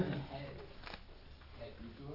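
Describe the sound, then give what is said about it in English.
Sheets of paper rustle and shuffle as they are handed back among people, with a few short crisp bursts, while people murmur and talk in the background. “You want to pass one to him? Pass back some.”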